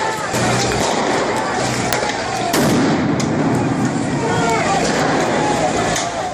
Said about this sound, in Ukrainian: Ніхто нічого не міг зрозуміти, потім ці постріли.